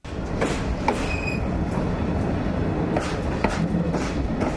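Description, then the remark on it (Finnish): A night train rumbles and rattles steadily into the small station of Luleå in northern Sweden, with low-pitched rolling noise throughout, punctuated by sharp metallic clacks and brief high squeals from the wheels. No one speaks. “Yöjuna kolistelee Luulajan pienelle asemalle.”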